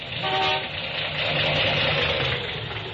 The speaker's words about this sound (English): Engine, huh? Hasn't got the pickup of a kitty car. Well, it's misfiring some. Some? Mister, half my plugs are on strike.